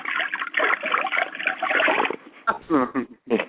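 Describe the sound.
About two seconds of sloshing, splashing water from a bucket, used as a studio sound effect, steady and fairly loud, followed by a few short bursts of a person talking.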